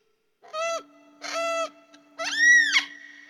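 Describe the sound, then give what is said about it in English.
Three loud, nasal bird calls in quick succession, the last one longest and rising, with a faint steady low tone humming beneath them and no talking. “When you're playing music with birds, do you feel like you're entering their world in some way, that you're becoming kind of bird-like yourself?”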